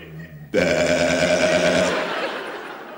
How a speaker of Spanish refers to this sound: Además, del total de ovejas que emitían un 12% también podía emitir y las llamó ovejas de balido mixto o también ambivalentes.